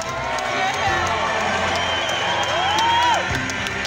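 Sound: stadium fans cheering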